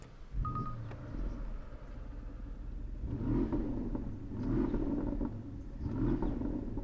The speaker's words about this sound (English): Well, straight away you notice that there's a fruitier note to that very pleasant V8 rumble.